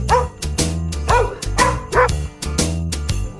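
Dog barks are pitched and strung together into a bouncy, jazzy version of a holiday jingle melody, with a steady beat and backing bass. The barks land about twice a second, loud.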